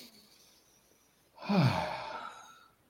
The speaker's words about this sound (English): So it's four simple breaths. So breathing in, I breathe for me. Take a nice breath, I breathe for me.